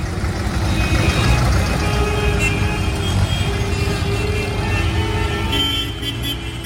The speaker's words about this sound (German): Nach und nach fädeln sich die Traktoren ein und tatsächlich, es passen alle 24 gleichzeitig rein.